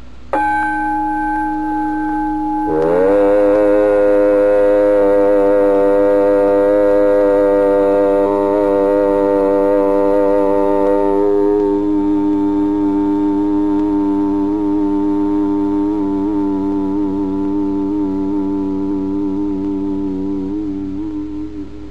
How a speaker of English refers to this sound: Chief of these is the syllable Om, or Aum, called the pranava, or the sound of God, because it involves the whole range of the voice from the back of the throat to the lips. Take the tone from the gong and hum it with me.